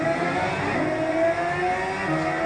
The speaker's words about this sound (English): Here the camera is actually understanding how you're holding the paper and playing the car racing game.